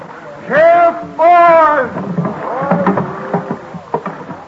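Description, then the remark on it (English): William Penn's wooden boat lands at Dock Creek, Philadelphia, in early December 1699, bumping in against the dock with two loud, drawn-out creaking groans, followed by softer knocks and indistinct murmuring voices. “It is early December, and his boat is landing at Dock Creek.”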